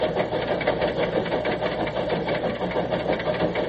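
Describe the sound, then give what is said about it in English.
A steady, loud rumble of a train engine, played from a record, churns on without pause, with a faint rapid rhythmic pulsing running through the noise and no voices over it. “Now, this was made on the famous run that it made. It ran between... I love that whistle.”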